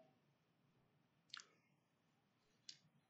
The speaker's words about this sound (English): I'd like to hear the pages turning.